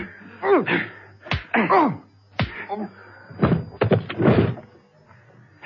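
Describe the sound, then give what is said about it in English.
A scuffle in which a man is punched and knocked out: several sharp, heavy blows land amid strained grunts and groans, with a couple of quick thuds near the end before it goes quiet. “You knocked him out.”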